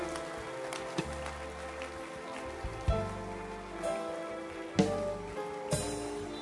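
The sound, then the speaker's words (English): Continuous clapping from an audience, a dense, steady patter of many hands with a few sharper, louder claps standing out. No one speaks. “Keep clapping your hands for them.”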